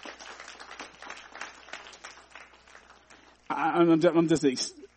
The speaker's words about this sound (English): Give the Lord a hand clap of praise for his great mercy.